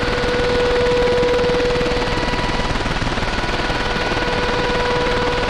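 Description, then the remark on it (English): Harsh, continuous shortwave radio jamming noise targeting international English-language broadcasts roars loudly throughout, a dense rapid rattling buzz with a steady whining tone running through it, and no voices come through. “that was the sound of jamming against the BBC World Service and the Voice of America”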